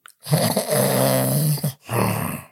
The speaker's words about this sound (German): Du schnarchst, Schatz. Ach, du liebe Zeit, stimmt. Das ist der Wein, der muss atmen.